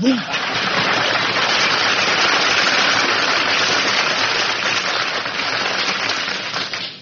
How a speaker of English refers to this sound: Man, when I get applause like that, I know the audience is from Brooklyn.